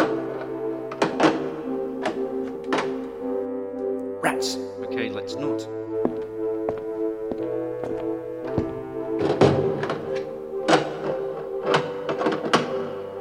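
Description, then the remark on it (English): Someone tries the handles of locked doors along a corridor, producing a series of short, sharp thunks and rattles scattered irregularly over sustained background music, with a brief muttered remark from a voice. “Doctor, all the doors are locked.”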